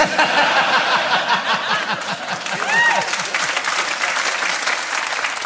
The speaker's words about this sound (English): You'll notice that only half of them were clapping for that.